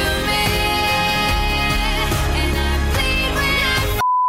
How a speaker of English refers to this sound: you slide in a beep and they become just moderately filthy.